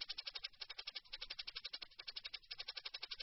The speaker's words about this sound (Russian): Ну, кстати, из шейкера я бы вот тремоло убрал бы. Вот лучше бы убрал, иначе они с хэтом путаются.